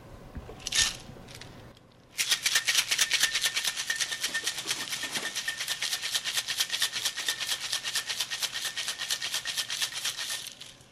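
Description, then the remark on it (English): A cocktail shaker full of ice, Gin Number 6 and muddled cucumber, cored jalapeno and cilantro is shaken hard and steadily for about eight seconds, a fast, even, bright rattle of ice against metal, preceded by a brief clink. “And then I'm going to shake this up vigorously.”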